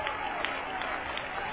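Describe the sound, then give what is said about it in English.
A church audience claps together as a clap offering, a dense, continuous wash of hand claps, steady and fairly loud throughout, with no distinct voices standing out. “Or clap your hands and give Him a clap offering.”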